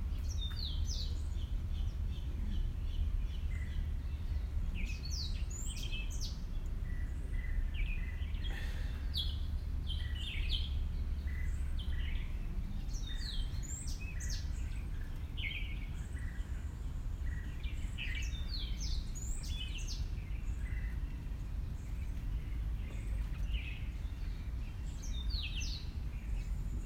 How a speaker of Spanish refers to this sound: Pero en Mauricio no solamente es playa, aunque básicamente es lo que más hemos disfrutado, sino que también se pueden disfrutar de estos sonidos tan peculiares y diferentes como son los pájaros que nos acompañan en el día a día en el hotel.